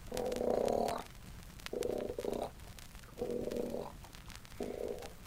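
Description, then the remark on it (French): A bull moose gives four short, deep, croaking grunts, the call known as the 'rot' (burp), at a steady rhythm, each about a second long with brief pauses between. The calls are clear, with no voices. “Souvent, le mâle fait un cri que l'on appelle le rot.”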